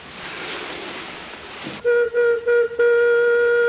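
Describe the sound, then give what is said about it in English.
After a rush of steady hissing noise, a loud mine disaster whistle sounds three short blasts and then one long sustained blast on a single steady, fairly high pitch, signalling a mine collapse with men trapped. “And that whistle indicates there has been a mine collapse.”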